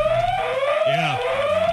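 alarm going off

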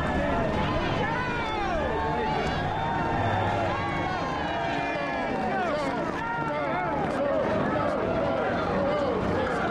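crowd cheering

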